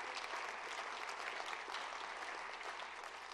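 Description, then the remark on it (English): A steady wash of audience applause after a preacher's account of school students trusting Christ, many hands clapping at once in a dense, continuous roar that holds at an even level throughout. “That's a good cue to clap.”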